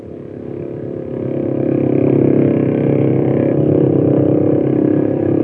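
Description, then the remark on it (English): A motorboat engine on Blue Lake drones steadily, its low buzzing hum swelling louder over the first couple of seconds and then holding a constant pitch, with no voices. “During the day, motorboats ply the lake for pleasure riding and towing water skiers.”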